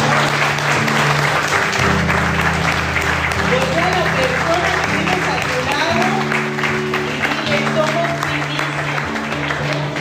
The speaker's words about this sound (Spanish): Amén y amén. Amén. Dale un fuerte aplauso.